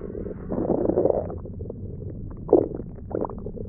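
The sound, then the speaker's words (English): Wet, bubbling stomach gurgles roll along in low, irregular pulses, swelling around the first second and again with a sharper burble midway, with no voices. “Can you hear them melting away inside me?”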